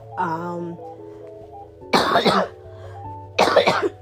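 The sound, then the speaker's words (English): Two harsh coughs about a second and a half apart, following a brief voiced sound, with a steady low hum running underneath throughout. “My cough decides to act up the moment I want to record.”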